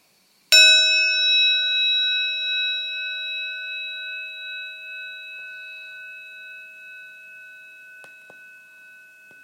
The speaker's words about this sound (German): Wir werden jetzt circa 7 Minuten meditieren. Und ich leite die Meditation mit einem Gong-Klang ein. Und beende sie auch wieder damit.